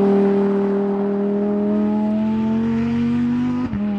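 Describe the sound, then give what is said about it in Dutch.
A Lamborghini Huracan Technica engine holds a steady, loud, buzzing drone whose pitch climbs slowly as it revs, then briefly dips near the end, with no voices over it. “En Wouter in de Lamborghini Huracan Technica.”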